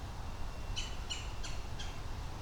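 A squirrel by a creek gives four short, raspy chattering bursts at a steady, even pace, harsh and scolding, over a faint low rumble of outdoor background noise.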